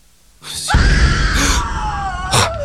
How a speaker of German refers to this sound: Bob brauchte ein paar Sekunden, bis ihm klar war, was dieser Schrei bedeutete. Irgendwo im Haus musste jemand auf eine dieser Fliesen getreten sein.